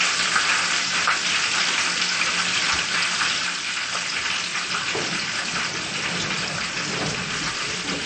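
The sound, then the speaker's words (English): Food fries in hot oil until golden, a steady hiss with dense crackling pops that carries on evenly throughout, fairly loud, with no one speaking. “We let them fry until they became golden.”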